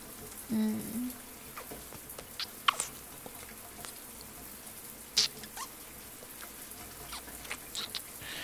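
A shower runs with a soft, steady hiss of falling water, scattered patters and a few sharp drips on top, and a brief low voiced hum near the start.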